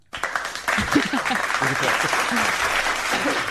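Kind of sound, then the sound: human body sound, hands clapping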